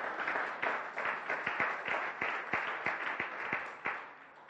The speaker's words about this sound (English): That, oh, wow, yeah, you can clap for that.